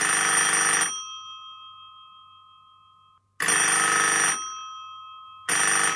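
A telephone rings in loud, buzzy bursts, each about a second long, with steady tones lingering faintly between rings, introducing a call with a listener's favorite Bible verse. Three rings are heard, with no one speaking.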